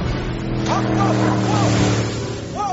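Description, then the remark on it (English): A motorboat engine drones loudly and steadily, its deep throbbing hum holding throughout as the boat is hijacked, with a few brief voices rising over the engine noise. “I don't think that hijacking a boat is a proper way to express your frustration.”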